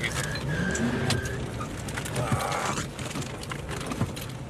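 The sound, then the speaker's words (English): A car rumbles along, its rough, noisy engine holding a steady drone with a few rattly squeaks over the top, and no one speaking. “People wonder why I don't buy American cars. God damn. Listen to that piece of shit.”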